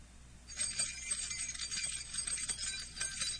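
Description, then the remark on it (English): A bunch of keys jingles continuously for about three seconds, a bright, metallic, irregular tinkling that starts abruptly and keeps shaking without pause. There is no talking. “Does anyone have any keys? Do you have keys?”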